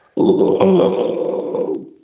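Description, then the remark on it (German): A single sustained, low guttural growl from a human voice demonstrating the growling vocal technique used in metal music, rough and gravelly, starting abruptly and holding steady for nearly two seconds before tapering off, with no other sounds around it. “Growling bedeutet, wenn man es auf Deutsch übersetzt, ist ein englisches Wort, so viel wie bellen oder knurren.”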